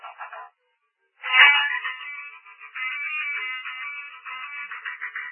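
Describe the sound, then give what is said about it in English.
A preacher's phone rings during a sermon with a bright electronic ringtone: a short burst, a brief pause, then several seconds of continuous melodic ringing, fairly loud, with no one talking. “That's bad when the preacher gets a phone call.”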